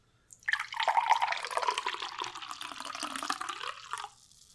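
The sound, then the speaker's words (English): Bottled herbal tea with chamomile, lemon balm, valerian root, hops and passion fruit pours steadily into a glass restaurant-chain goblet for about four seconds, a bright splashing stream whose pitch shifts as the vessel fills, then stops abruptly. “We're gonna pour it into our alum's goblet here.”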